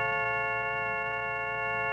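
Tones from an optophone, a reading machine that scans printed text and turns it into tones representing the shapes of the letters: a steady chord of several evenly stacked pure tones held for two seconds over a low hum, with faint ticking flickers running through it and no voices.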